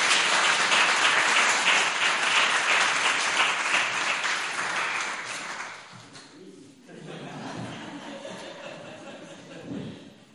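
A crowd applauds with dense, steady clapping for about six seconds, then it fades out and a voice starts speaking while a few scattered claps trail off.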